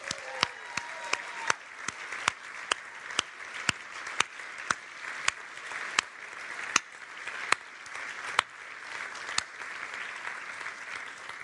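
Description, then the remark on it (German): An audience applauds for several seconds, with dense steady clapping and a few sharp, louder individual claps standing out at irregular intervals. “Und darum, ich würde vorschlagen, dass wir als das GPMC mal der Seestraße einen fetten Applaus gibt.”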